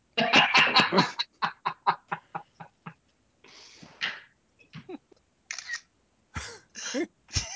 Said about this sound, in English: Congratulations on being you and every other teenage girl still having their shutter sound on their camera.